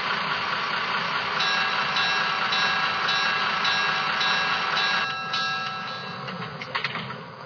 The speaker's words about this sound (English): on track one, train number 149.